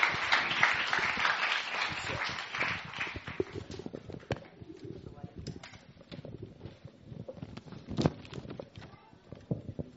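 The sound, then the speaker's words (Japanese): Audience applause from a crowd, a dense burst of clapping that is loudest at the start and thins into scattered claps over several seconds, with a few sharp individual claps near the end. “じゃあ、皆さん拍手しましょう。”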